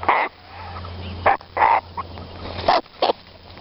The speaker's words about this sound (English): There we are, some gratuitous cockatoo noises there to end that interview